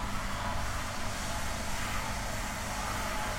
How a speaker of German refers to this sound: Ätzend, oder? Immer, wenn ich umziehe, macht da eine Baustelle auf. Wir schleppen das wirklich mit uns rum wie so ein Virus. Baustellengrippe. Die immer, wenn wir irgendwo hinziehen, ist da eine Baustelle.